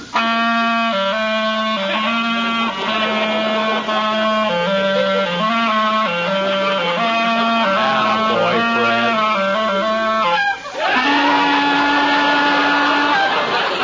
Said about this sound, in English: Ready with your clarinet